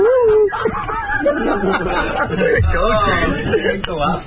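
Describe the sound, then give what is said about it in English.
A dog makes drawn-out warbling whines and yowls that rise and fall like speech, as if saying 'I love you', several vocal phrases in a row, with what sounds like soft chuckling mixed in. “I've learned how to type with one hand while my dog says I love you.”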